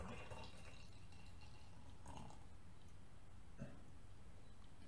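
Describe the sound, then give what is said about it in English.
A quiet trickle of the last of a complex beer being poured into a glass, with short gurgling splashes and a few soft drips as the last of it runs out. “Poured up the last bit.”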